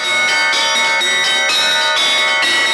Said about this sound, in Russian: Вот эти три больших колокола, они были отлиты в Москве. Это Благовестники. Вот. Самый большой колокол имеет вес 6,5 тонн.